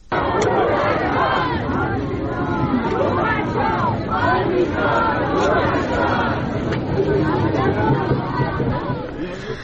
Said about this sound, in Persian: تصاویر منتشر شده از این مراسم نشان می‌دهد با وجود حضور ماموران امنیتی، برخی از حاضران نام این دختر نوجوان را فریاد می‌زنند.